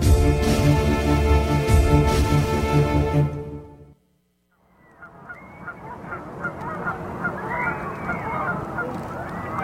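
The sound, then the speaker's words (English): A loud, dense stretch of harmonic honking from a goose, a brief silent gap, then more scattered honks and screaming calls over a busy background of voices and crowd noise, as people wait for fireworks across a bay. “Yeah, so they're screaming and a goose, so that means that the fireworks are going to begin fairly soon, not immediately.”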